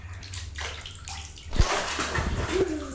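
Water pours from a jug into a bath, making a waterfall, a steady splashing rush with a sharper slosh midway, fairly loud, with no talking.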